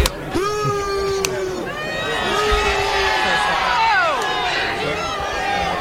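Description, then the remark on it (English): Two sharp cracks of eggs thrown at King Charles snap out near the start, narrowly missing him, before a dense crowd erupts into loud, overlapping shouting and yelling that keeps going throughout. “he was missed, and you hear two eggs crack here, and the crowd goes nuts.”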